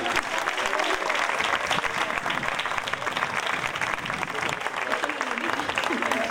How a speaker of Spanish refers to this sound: Una madre, un aplauso. La primera.